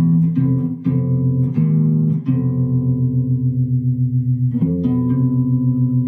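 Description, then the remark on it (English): Piano chords built of a tritone with a half step on top, struck four times in quick succession, then held with a gentle wavering shimmer before a final chord, ringing full and steady with no talking. “Sound of the half step on top as opposed to the whole.”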